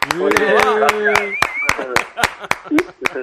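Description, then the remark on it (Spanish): A small group in a studio claps for David Albelda in a steady, brisk rhythm, the sharp claps clear, while voices talk and call out over the applause. “Somos pocos aquí, pero te podemos dedicar una ovación los que estamos, ¿no?”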